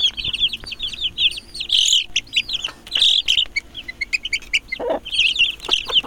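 A flock of chicks on a farm peep and chirp continuously in high, rapid, overlapping calls, with a brief lower cluck near the end and faint scratching noises underneath.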